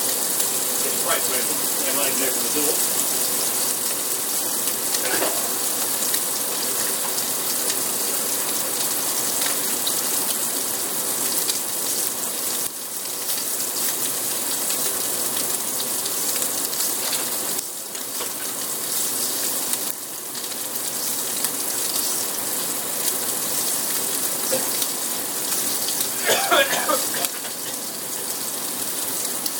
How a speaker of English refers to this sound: I have to put the exhaust fan on a bit more.